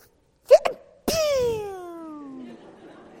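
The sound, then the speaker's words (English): A person imitates a stifled sneeze, trying to hold it in: two quick choked catches, then a sharp burst that trails into a strained, falling whine, fairly loud. “I don't want to sneeze and go, wah! Ah! So you try to hold it, and you get one of these.”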